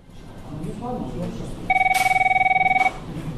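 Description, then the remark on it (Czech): A telephone in the call centre of the Serbian tax administration rings once in a fairly loud burst of rapid trilling pulses lasting about a second, following a stretch of low background murmur. “Javite se slobodno.”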